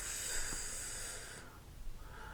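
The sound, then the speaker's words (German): A voice imitates snoring: one long, raspy, hissing breath drawn in, followed by a softer exhale. It is fairly quiet, with no speech. “Und was, wenn wir jetzt müde werden, ja, du schnarchst schon.”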